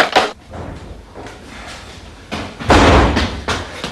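Heavy, hurried footsteps of a person running up a flight of stairs to a front door thud irregularly, building to a cluster of louder knocks and bumps near the end. Nobody speaks.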